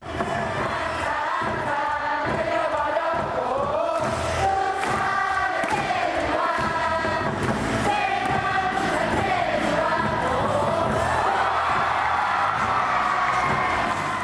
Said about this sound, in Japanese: では一方の一塁側のトゥサンベアーズなんですけれども、こちらもともと女性ファンが多いというのもあるんですが、応援の、ね、音程がちょっと高めなんですよ、音が。なんで女性の声が非常に際立っています。1番バッターチェ・ジュファン選手への応援の様子です。